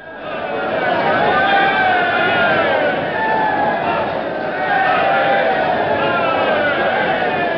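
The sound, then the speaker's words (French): An agitated concert crowd heckles Igor Stravinsky on an old recording: a dense, steady roar of many overlapping voices shouting and jeering, loud throughout with a band-limited, slightly muffled tone. “Alors, c'est une réaction fâchée”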